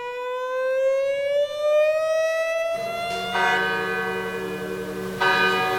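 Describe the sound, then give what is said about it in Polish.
A rising siren wail gives way to the large memorial bell "Pamięć i Przestroga" in Wieluń, given to the town by President Andrzej Duda, tolling, its deep resonant strikes ringing out every couple of seconds and lingering loudly over the fading siren. “Tak od 3 lat bije w Wieluniu serce dzwonu Pamięć i Przestroga, przekazanego miastu przez prezydenta Andrzeja Dudę.”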